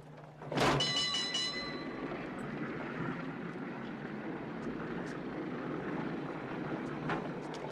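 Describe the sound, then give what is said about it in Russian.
A Pacific Electric public transport streetcar rolls past: a sudden sharp metallic burst with a brief ringing tone, then a steady, loud rumbling clatter of wheels that carries on to the end. “Общественный транспорт, компания Pacific Electric.”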